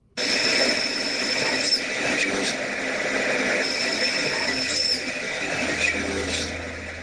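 A spirit box app called Divination Box, a free Android app, sweeps through radio noise, heard through a phone: a steady, harsh wash of static laced with thin whining tones and occasional choppy bursts, continuous and fairly loud throughout.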